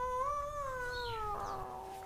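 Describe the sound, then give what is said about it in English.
A single long, drawn-out, loud cat meow, holding a steady whining pitch for about two seconds before trailing off, with no talking over it. “Jesus Christ, would you please shut up? How long does a cat live?”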